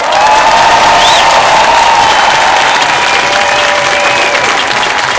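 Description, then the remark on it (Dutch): Loud, sustained applause from a large crowd at a demonstration, dense clapping filling the whole stretch, with a few whistles and shouts rising above it; the applause is for the students taking part. “En die verdienen wat mij betreft een heel hard applaus.”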